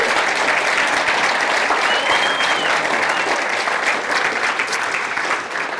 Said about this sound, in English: How about one more round of applause for our children?